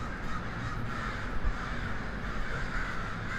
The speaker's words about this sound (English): And if the cycle is to be believed, that article that I read about the crow roosting in the city, is that over the next couple of months, they'll stop doing this. Like around March, the roosting habits shift.